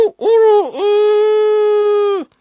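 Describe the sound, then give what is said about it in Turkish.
Abdin's rooster crows once in reply: two quick rising-and-falling notes, then a long, loud, steady held call with a bright, buzzy tone that drops away sharply at the end. No talking. “Abdin'in horozu da verdi karşılığı.”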